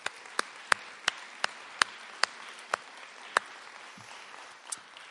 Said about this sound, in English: So a round of applause for them, please.